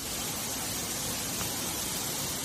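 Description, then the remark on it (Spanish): A dense, steady hiss of heavy storm rain pouring down in Móstoles, El Álamo and Madrid city, Spain, without a break, loud and even across the whole stretch, with no voices or other sounds on top. “Así caía de fuerte en localidades como Móstoles, El Álamo y también en Madrid capital, donde se inundaron varias estaciones de metro, entre ellas la del Estadio Metropolitano, minutos antes del comienzo del partido del Atlético de Madrid.”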